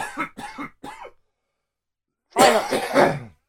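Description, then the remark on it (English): A burst of three sharp coughs, a short silence, then a longer, loud, raspy coughing fit with throat-clearing hacks. “So then, before we start, in an effort to make this slightly easier to edit, I'm going to have a massive coughing fit, and then we can begin.”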